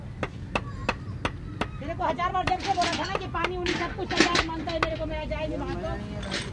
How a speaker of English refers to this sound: Yesterday's dried up cement has to be knocked out of today's buckets.